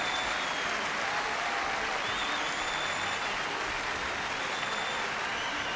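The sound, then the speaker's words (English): Sustained applause from thousands in the audience at a Three Tenors concert as Zubin hugs Placido and Jose, a dense, steady wash of clapping that fills the space evenly for several seconds, with no voices standing out. “Zubin hugs Placido and Jose as thousands applaud.”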